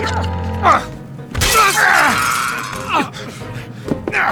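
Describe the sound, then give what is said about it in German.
A vase smashes with a loud burst of breaking glass and ceramic, followed by scattered tinkling fragments, while a man groans and strains through the commotion. “Die Vase, jetzt!”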